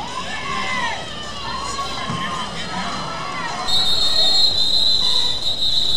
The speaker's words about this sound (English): Oh, snap. What's going on? They are trucking each other, dude. I hear people screaming.